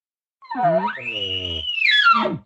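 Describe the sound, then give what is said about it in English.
A single bull elk lip bawl: a low, throaty start that climbs into a high, sustained whistle, then breaks downward into a raspy falling note, all in about two seconds with no talking. “You notice that lip ball was only like a quarter of a second long.”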